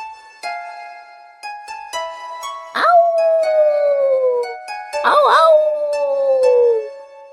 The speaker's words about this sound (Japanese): あおーあお ー。狼男でした。